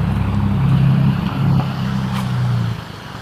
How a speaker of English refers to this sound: I'm laughing at the traffic. More cars.